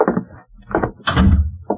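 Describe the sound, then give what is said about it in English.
A door being shut: a few clattering knocks of handling and latch, then a heavier low thud as it closes, followed by one last short click. “Lock the door.”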